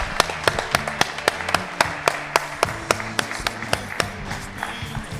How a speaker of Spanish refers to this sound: No sé si os habéis parado a pensar que aquí estamos 200 inscritos, aunque alguno se ha dormido, parece. Pero yo creo que os merecéis un aplauso también vosotros por haber venido y por no haberos marchado. Un aplauso para vosotros.